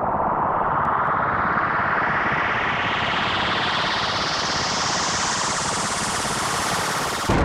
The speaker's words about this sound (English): Another explosion shreds my eardrums, followed by a horrible, burnt pork chop smell.